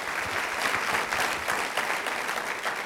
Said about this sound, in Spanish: Aplaudan al Rey de Reyes, Señor de Señores.